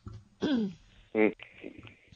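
coughing

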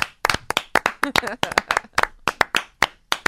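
hands clapping

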